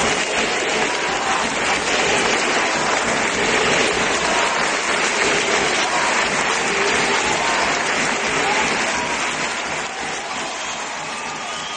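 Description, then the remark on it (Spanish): A large crowd applauds steadily at the end of a match, chanting the name of team captain Silvia Domínguez. The clapping is a dense, continuous wash that stays loud throughout and eases slightly near the end, with a faint murmur of voices mixed in. “aplausos, coreando el nombre de Silvia Domínguez”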